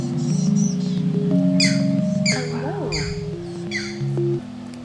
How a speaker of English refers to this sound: They're little green herons. They've nested here for years, and their babies make these just awful, squawky noises. So that's who we're hearing.